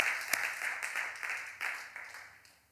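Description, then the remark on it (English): A church audience claps together in praise of Jesus during a sermon, steady, dense applause with a few sharper individual claps standing out, fading toward the end. “You can clap for that.”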